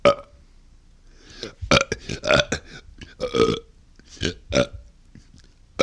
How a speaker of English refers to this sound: So those are a couple of the burps that I've done in Boston. And the first two were from New England clam. Yeah, those. I learned those burps in Boston.